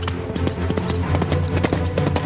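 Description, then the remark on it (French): Horse hooves clip-clop at a brisk, steady trot as a rider urges the horse forward, fairly loud, the rapid hoofbeats ringing out over a sustained tonal background. “puis donnant une brusque saccade de bride à son cheval, il le fit se porter en avant d'une vigoureuse pression de bottes.”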